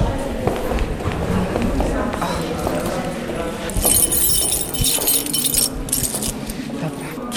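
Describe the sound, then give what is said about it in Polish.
Keys jangle and clink in bright, metallic bursts, strongest in the second half, over a busy background of movement and shuffling footsteps, as the library at the Baobab Integration Centre is being opened. “Klucze.”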